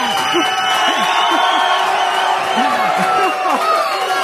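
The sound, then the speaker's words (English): A large crowd cheers as a speaker is introduced, in a loud, sustained roar of many overlapping voices, with scattered whoops and shouts rising above the steady din for the whole stretch. “Oh, we got a crowd here today, a big one.”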